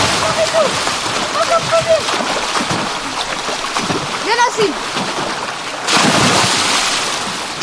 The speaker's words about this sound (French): Bon, vous l'avez entendu, les enfants sautent un à un dans l'eau.